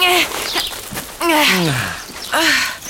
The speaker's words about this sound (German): Dafür weiß ich jetzt, wer hier überall so raschelt. Es sind Vögel.